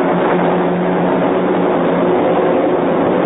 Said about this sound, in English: They cover the sky. Fighter planes, bombers, C-47s, dropping rations, ammunition, medical supplies, just what we wanted for Christmas.